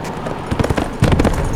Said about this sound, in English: Pine heard Frank's horse galloping toward him from the rear.